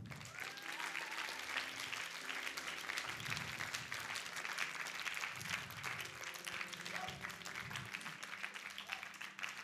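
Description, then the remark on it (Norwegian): An audience at a Christian meeting applauds steadily after a prayer, many hands clapping in a dense, continuous wash of sound with no voices standing out. “Gi en applaus.”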